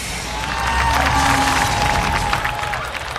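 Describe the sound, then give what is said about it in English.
A loud, sustained roar from a large crowd in a plaza, with cheering and scattered clapping blending into a dense wash of noise that swells and holds steady throughout. “When his canopy opened, he was deafened by the roar from the crowd.”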